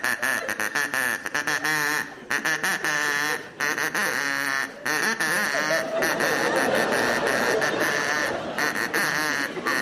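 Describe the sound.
A person imitates a duck, letting out a loud, nearly nonstop stream of nasal quacks in quick, uneven bursts for about ten seconds.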